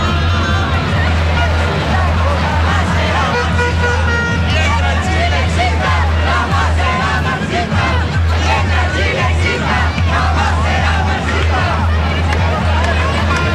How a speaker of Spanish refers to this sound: Entonces, de estos gritos de la gente a la espera de el discurso de José Antonio Kast